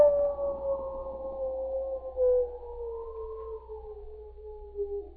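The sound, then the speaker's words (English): A single long wolf howl in a silent, snowy wilderness after a storm, drawn out for several seconds and slowly sliding lower in pitch, steady and moderately loud with no voices around it. “The silence that was broken only by the infrequent howl of a wolf.”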